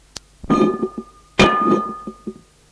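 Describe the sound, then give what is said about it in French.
A glass wine bottle is set down on the floor of a bedroom after a drink from it, giving two sharp clinks that ring with a bright, sustained tone, along with a few softer knocks as it settles. “Retrouve son mari dans sa chambre, au lit, qui boit à la bouteille une gorgée de vin, puis pose la bouteille à terre.”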